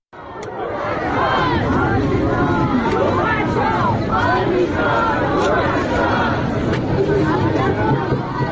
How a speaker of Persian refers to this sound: مراسم خاکسپاری آرمیتا گراوند صبح روز یکشنبه در شرایط امنیتی در بهشت زهرای تهران برگزار شد. تصاویر منتشره از این مراسم نشان می‌دهد با وجود حضور ماموران امنیتی، برخی حاضران نام این دختر نوجوان را فریاد زدند.